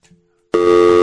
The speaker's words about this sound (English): Now, I know we were having some issues with the phone line, Kyle. Can you just give me a dial tone? I'm just going to see if we have a problem on our end.